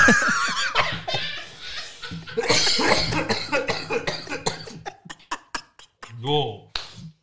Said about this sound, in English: Yo, I coughed and became lightheaded. Jesus.